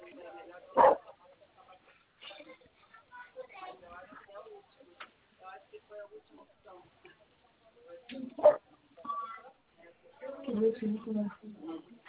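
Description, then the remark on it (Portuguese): A dog barks twice, sharp and loud, the barks several seconds apart, while people talk in the background between them. “tá ouvindo o cachorro”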